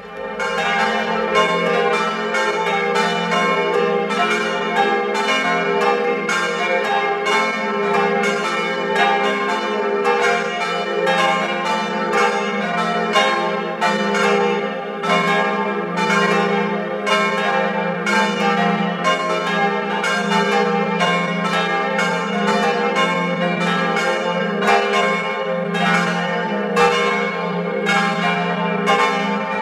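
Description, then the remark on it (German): A full peal of the bells of the parish church of St. Laurentius in Baumkirchen, Tyrol, rings steadily at 12 noon, several bells striking in quick overlapping succession, loud and resonant with a rich humming drone beneath, and no voices. “Sie hören die Glocken der Pfarrkirche zum heiligen Laurentius in Baumkirchen in Tirol.”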